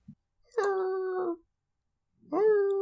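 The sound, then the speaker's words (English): A hurt greyhound lets out two drawn-out, whimpering howls, fairly loud, with a short silent pause between the steady, mournful cries. No one talks. “The dog is hurt, too.”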